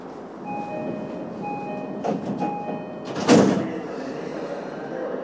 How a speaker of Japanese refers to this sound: 発車いたします。閉まるドアにご注意ください。